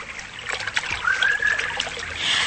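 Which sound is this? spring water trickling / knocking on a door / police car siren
spring water trickling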